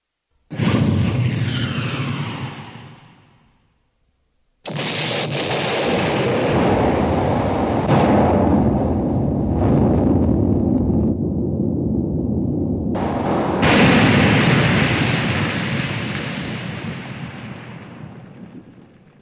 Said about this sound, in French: Il est impossible de rendre compte du terrible bruit que fit la torpille en éclatant. Elle explosa, brisant le bateau en 15 000 morceaux et lançant en l'air à des centaines et des centaines de mètres de distance cheminées, machines, canons